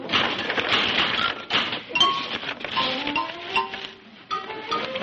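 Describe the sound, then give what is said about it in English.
Rapid, dense clattering of typewriter keys, mechanical and fairly loud, broken by a couple of brief pauses, with short ringing metallic pings sounding over the typing. “I guess it's a typewriter.”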